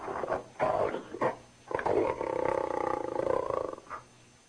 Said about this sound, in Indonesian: Dia dengar suara harimau saja.